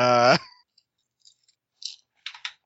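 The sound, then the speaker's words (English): A short burst of voice gives way to a few sparse, sharp clicks and clatters, like ten-sided dice tumbling and settling on a hard tabletop as a stealth roll is made. “How many dice do you roll for stealth? 9. I roll 10.”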